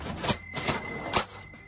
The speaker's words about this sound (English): Cash register? You don't get them anymore. No. No, there's no cash registers anymore.